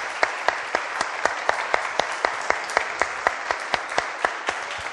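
An audience claps steadily in gratitude for a speaker, a dense wash of hand claps with a few sharp, louder claps standing out at a regular rhythm throughout. No one speaks.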